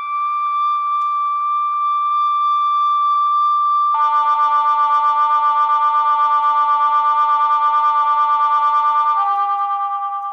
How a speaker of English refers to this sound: Here's a simple sine wave. First you'll hear one note and then another note added to it. But these are tones that are pure. They have no overtones. Like a tuning fork.